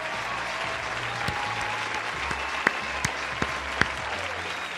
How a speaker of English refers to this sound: Right off the bat, your 2019 NBA champions are the Toronto Raptors. Ah, can you believe it? All right, let's give him a clap.